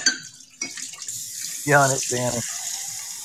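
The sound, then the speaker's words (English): Water runs from a tap with a steady hiss as an iced coffee cup is rinsed beneath it, splashing and clattering in short bursts; two brief harmonic tones, like voiced sounds, cut through midway. “Rinsing my iced coffee cup.”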